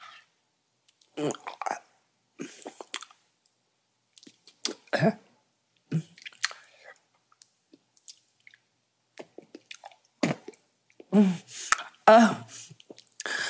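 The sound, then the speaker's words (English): Several short, wet coughs and throaty bursts, fairly loud, scattered among squishy, slurping mouth noises, growing denser and harsher toward the end, as someone gags during oral sex. “and then it's finally time when your cock is fully hard and I can't fit it in my throat any longer, no matter how much I cough.”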